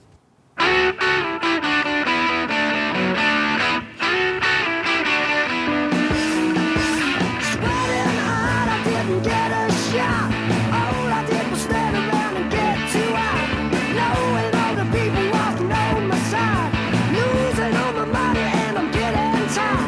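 A loud rock song with distorted electric guitars plays without talking. A brief intro gives way to the full band, with drums pounding in after a few seconds and continuing at a steady, driving pace.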